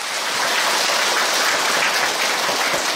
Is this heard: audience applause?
yes